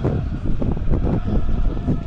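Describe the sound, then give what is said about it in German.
Steady, loud icy wind blows through a football stadium during a match, buffeting the microphone with a deep rumbling roar and gusty swells. It is continuous for the whole stretch, with no voices over it. “Hört man hoffentlich den eisigen Wind, der hier heute wieder durchs Stadion zieht.”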